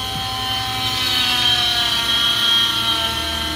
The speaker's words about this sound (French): Donc on va maintenant utiliser la scie oscillante. Ça va faire un petit peu de bruit.